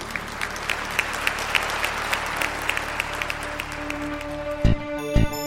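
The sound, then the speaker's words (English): An audience applauds with steady, dense clapping from many hands for several seconds, then it thins out as a couple of low thumps and a sustained tone come in at the end. “Well, my friend, today I hope that you also are clapping in your heart.”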